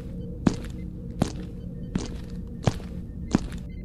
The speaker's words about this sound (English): What is that noise? It's these new boots. I haven't broken them in yet.